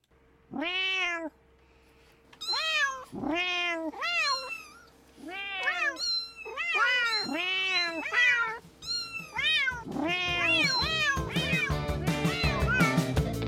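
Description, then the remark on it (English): A cat meows over and over, loud, each meow drawn out and rising; the calls come faster and pile together toward the end, in a CITR 101.9 FM radio ad for Cool Cat Chit Chat. “And in case you don't speak cat, on Friday, September 20th, CITR Discorder, UBC Film Society, and the Blank Vinyl Project are all joining forces to bring you Cool Cat Chit Chat.”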